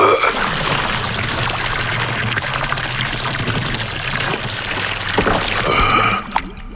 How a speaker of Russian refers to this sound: и дворецкий опять засунул голову Томаса под кран с ледяной водой.